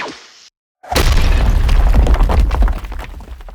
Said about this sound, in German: dann hört man ja diesen Laserschuss und genauso gut hört man dann aber auch im Hintergrund so Berge, ne, explodieren, damit es einfach ein bisschen stimmiger ist. Ja. Also haben wir mehrere Tonfrequenzen einfach zusammengeschnitten.